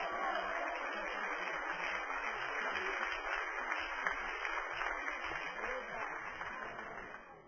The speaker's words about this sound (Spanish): ¿Alguien puede darle un aplauso a Cristo?